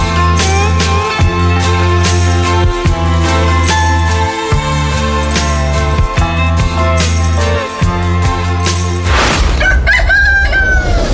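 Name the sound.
rooster crowing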